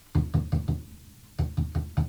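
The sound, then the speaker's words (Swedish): Two sets of four firm, evenly spaced knocks, separated by a short pause, tapped on a hard surface as if rapping on a window. No one speaks. “Och ett tag där bak efter så fick vi höra en knacka på fönstret.”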